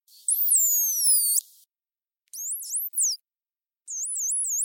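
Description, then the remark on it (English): Three separate bursts of dolphin signature whistles: high, squealing tones that swoop up and down, the later ones repeating a looping wavy pattern, with short silences between and no talking. “So every dolphin has something called a signature whistle. Let's listen to some examples first.”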